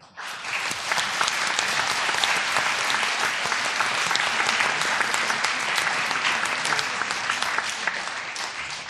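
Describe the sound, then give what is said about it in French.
An audience applauds a prize-winning class from the primary school of Bourg de Cula, which is absent. The applause is steady for the full length, a dense, even wash of many hands with no voices rising above it and no break in the ovation. “Donc nous les applaudissons, mais ils ne sont pas là.”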